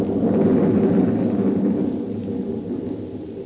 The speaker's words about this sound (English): And suddenly, I was lifted in the air. There was thunder and lightning around me, too.